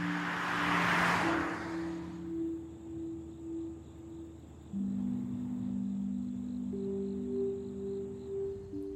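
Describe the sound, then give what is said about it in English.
A car drives along with a steady low engine hum and road rumble, a brief whooshing rush of air in the first couple of seconds, and no one speaking. “In a car.”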